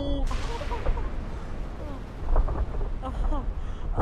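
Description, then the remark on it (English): A building collapsing after four explosions, with a heavy, continuous roar of deep rumbling and crashing debris, loud, swelling midway, with faint voices mixed underneath. “Is that building collapsing?”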